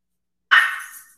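A single sharp bark from the speaker's dog, moderately loud, with a quick onset that trails off over about half a second. No voices accompany it.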